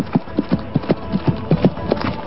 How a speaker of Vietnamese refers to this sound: Nói xong, chàng chắp tay từ giã, xoay người nhảy lên ngựa, ra roi chạy ngay.